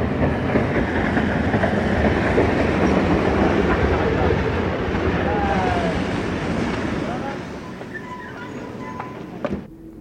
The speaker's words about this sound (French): Gare de la Chapelle, par un après-midi d'hiver, froid et brumeux, des voies, des trains, des postes, des aiguillages, des wagons, le tout dominé par la masse immaculée et immobile du Sacré-Cœur.